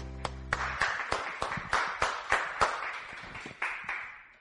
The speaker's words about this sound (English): Give the Lord a cheer.